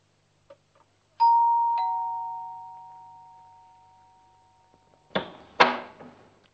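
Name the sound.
doorbell ringing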